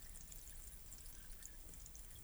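fizzing liquid being poured

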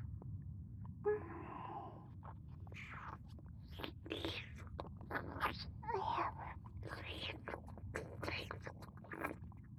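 kissing sounds

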